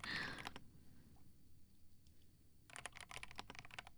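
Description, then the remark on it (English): Crisp computer keyboard typing: a quick flurry of key clicks, a pause of near silence, then a rapid run of keystrokes resuming toward the end. No one speaks. “Like, listening to me typing on my keyboard, right?”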